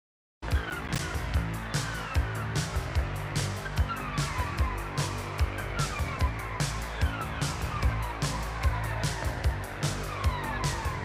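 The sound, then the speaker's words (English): An instrumental break of a song played on the radio, with a steady, punchy beat and a wavering, siren-like riff weaving over a busy, dense backing, played continuously at even loudness with no singing. “Typically, I play the chorus, but I just found an instrumental break.”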